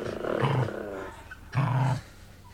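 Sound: dogs growling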